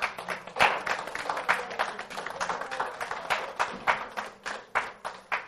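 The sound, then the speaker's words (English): A crowd gives a round of applause to God after a prayer, clapping steadily for several seconds, with many overlapping hand claps forming a dense, crackling wash of applause that stays fairly even before thinning slightly toward the end. “You can give a round of applause for that to God.”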